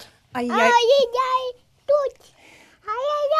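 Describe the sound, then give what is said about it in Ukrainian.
A toddler babbles in high, sing-song bursts in a studio: a longer stretch of rising and falling syllables, a short yelp, then another run of babble after a pause. “Моя дитина, напевно, перша дитина у вашій студії, та, яка дуже інтегрована”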